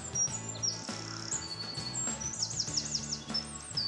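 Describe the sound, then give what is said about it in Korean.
Small blue birds in Idaho chirp and trill in quick, bright bursts, several calls overlapping near the end, set against a steady low tonal background with no voices. “파랗고 조그만 새소리에 세상 근심이 잠시 잊혀질 만한 곳이 바로 아이다호다.”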